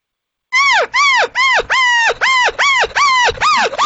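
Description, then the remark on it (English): A person imitates a cow elk's whining call: about nine quick, nasal, arching mews in a steady rhythm, loud and alone, each rising then falling like a dog whining. “When a cow is accepting that, you know, and she's running to the invite, you'll hear her kind of go.”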